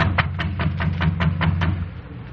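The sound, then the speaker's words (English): A soft, quick series of about eight light taps on a door, evenly spaced and fairly quiet, over a steady low hum. “I reckon it won't hurt nothing to tap on the door sort of gentle.”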